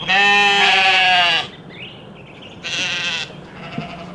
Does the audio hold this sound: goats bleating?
yes